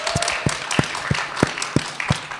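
Applause from an audience, a steady wash of clapping with sharper individual claps cutting through in a quick, even rhythm, moderately loud and with no one speaking.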